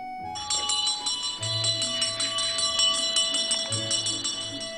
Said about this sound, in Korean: 어디선가 딸랑딸랑 멀리서 종소리가 나면 집집마다 대문을 열고 주황색 바가지 혹은 양은 냄비를 들고 나오는 발걸음이 있었다.